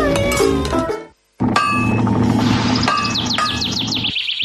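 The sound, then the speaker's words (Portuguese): Metallic clanks of a hammer striking iron ring out from afar, a few spaced blows with lingering resonance, followed by a brief gap and then bright chirps of a robin trilling over a steady background. “Ouvir o lonxe martillar o ferro, que prazer, e tamén de paso piar de algún papo rubio.”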